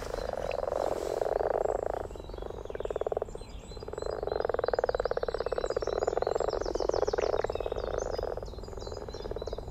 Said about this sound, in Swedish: Jag vet inte om vi ska be Lisa i studion att spela upp lite vanlig groda. Så tar vi en liten snabb crash course i grodläten.